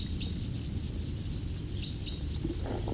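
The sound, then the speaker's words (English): A flock of birds flying past: a steady, low rushing flutter of many wings, with a few faint, high chirps breaking through now and then. “Sounds like another flock or the same flock flying around again.”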